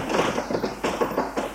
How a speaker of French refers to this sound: Un bruit de clé dans la serrure.